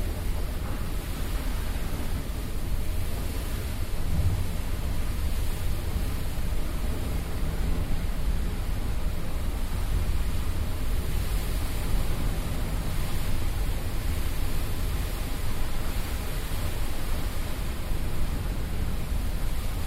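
A steady, continuous rush of ocean water fills the whole stretch, a dense hiss with no distinct breaking waves, heard from aboard a ship at sea in a swell.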